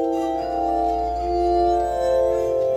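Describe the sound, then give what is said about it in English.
Glass harmonica music, tones put together for a commercial, with several pure, ringing tones held together in a steady, shimmering chord that swells gently. It plays fairly loud, with no voices. “Gerhard had put together some tones for his commercial, and the glass music swirled around me.”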